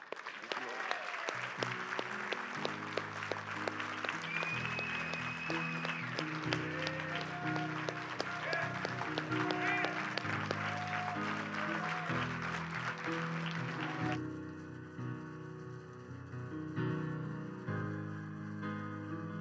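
A church audience breaks into sustained, loud applause given to God during a morning service, dense clapping mixed with scattered cheers over keyboard music. After about fourteen seconds the clapping thins and the music carries on.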